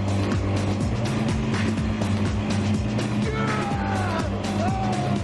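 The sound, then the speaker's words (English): Loud, continuous roar of propeller-driven amphibious bike engines racing neck and neck on water, a layered buzzing drone with a high whine that climbs in pitch toward the end. “But the Rocker's prop-powered amphibike is beginning to take the lead.”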